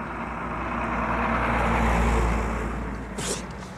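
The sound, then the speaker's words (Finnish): A general's car drives past troops, its engine rumble and road noise swelling to a peak near the middle before fading away, with no voices. “Ja ohi ajavan kenraalin auto sai aikaan niin pohjatonta kiukkua ja kiroilua, että päältäpäin katseleva olisi väittänyt armeijan huomenna olevan kapinassa.”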